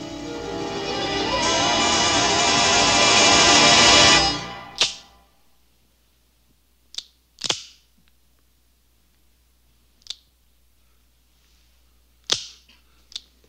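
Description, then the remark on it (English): A loud rushing, whooshing noise fades out, followed by about six sharp, dry metallic clicks spaced irregularly, a gun trigger snapping on an empty chamber after its bullets were taken out, distinct with no voices. “Sorry, the click is so anticlimactic, Sydney, but I needed the bullets from that gun.”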